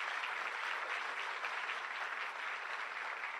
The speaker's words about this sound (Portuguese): Você pode glorificar Deus por isso? Pode aplaudir a Jesus por essa palavra?